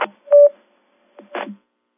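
A landline telephone rings in two short electronic tone bursts separated by a brief pause, moderately loud, with no voices.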